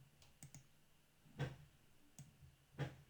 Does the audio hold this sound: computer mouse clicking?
yes